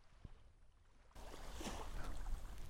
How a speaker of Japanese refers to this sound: 歩いて1分、カタヤンから歩いて1分のビーチに来てます。で、ここで今寝袋を広げて、そこに入って、真上の、星空を見てます。波の音も聞こえるでしょうか。